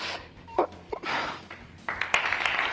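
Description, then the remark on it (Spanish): A crowd applauding steadily at an emotional farewell, a dense wash of clapping that swells toward the end, with a few sharper claps and breaths standing out. “Las lágrimas, la emoción y los aplausos.”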